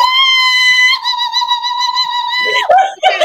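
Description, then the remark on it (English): A single voice mimics a crowd cheering with a loud, sustained high-pitched "woo" lasting over two seconds, then breaks into a few short, lower excited yelps. “This is me cheering. I am the audience cheering.”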